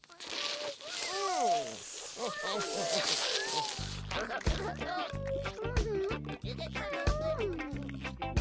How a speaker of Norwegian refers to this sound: Se, dere har glemt å skru av slangen. Og lille svarte katt liker ikke vann.